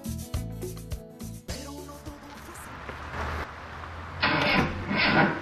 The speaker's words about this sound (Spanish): mi carro no arranca. ¿Qué te pasó, carro? Vamos, arranca. Debe ser la batería.